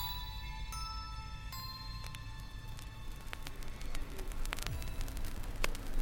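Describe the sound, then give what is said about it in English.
Steady radio static fills the whole stretch, a dense hiss with scattered sharp crackles and pops, faint electronic tones humming through it, swelling slightly louder toward the end. “I'm hearing static.”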